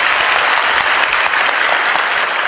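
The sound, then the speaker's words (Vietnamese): A crowd claps steadily for a couple of seconds at a monk's talk to young people, a dense, sustained burst of applause at a consistent loudness with no voices standing out. “Cho một tràng pháo tay.”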